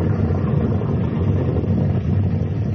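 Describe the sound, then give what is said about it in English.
A flash flood of water rushing down from the mountains through an arroyo: a deep, continuous rumbling roar holds steady and fairly loud throughout, a dense low-pitched churn with a faint hiss above it and no voices. “Don't you hear sort of a rumbling?”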